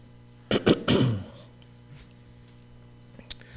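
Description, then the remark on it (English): A loud throat clearing by a speaker recovering from a cough, during a Bible teaching on the Gospel of Matthew, in a quick burst of two or three harsh, raspy pushes, followed by a low hum and quiet background with a faint click near the end. “My coughing is better, but every so often, you just can't see it coming, and all of a sudden I gotta clear my throat, so bear with me, please.”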